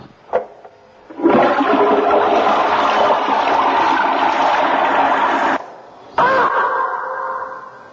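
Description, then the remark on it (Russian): A toilet flushes loudly, a roaring rush of water lasting about four seconds, then after a brief pause the tank hisses steadily as it refills. No one speaks. “Иван взял Кощея Бессмертного за шкирку и пустил в унитаз.”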